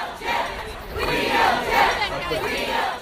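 protest crowd chanting outdoors

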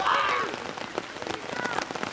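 monsoon rain falling

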